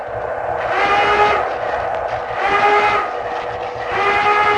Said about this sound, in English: There's the surfacing alarm. So you check around once more to be sure there are no ships upstairs. Make your report to the skipper, and then secure the gear as you go up to ride the surface on in.